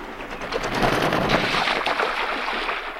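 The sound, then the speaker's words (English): A large distinctive duck, a species found in winter on Virginia's coastal waters, splashes down onto water, a broad rushing, churning splash that swells and then fades into a steady watery hiss over about three seconds, with no voices. “That's the landing sound of a large distinctive duck that can be found in winter on Virginia's coastal waters.”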